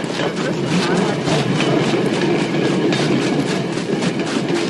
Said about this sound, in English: A lot of scenes like this that go on for 25 seconds. Of a train pulling out of the station. 30 seconds. Holy moly. 35 second scene.